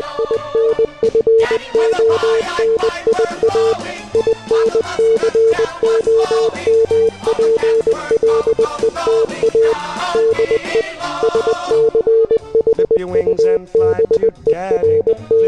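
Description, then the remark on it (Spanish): Morse code beeps: a single steady tone keyed on and off in quick short and long pulses, running throughout over a dense, busy background of other sound. “No me preguntéis por qué puñetas hemos acabado escribiendo Morse en el muro del programa, pero son cosas que pasan.”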